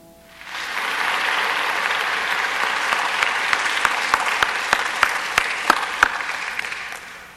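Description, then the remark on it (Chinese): Sustained audience applause for a combined choir and its conductor after a hymn, a dense wash of clapping that rises quickly and holds steady for several seconds, with a few sharper individual claps standing out toward the end. No one speaks. “我们给他们再一个掌声啊！”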